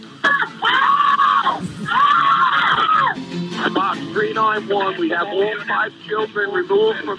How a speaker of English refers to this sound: Call for help, guys. They hear you. Call for help.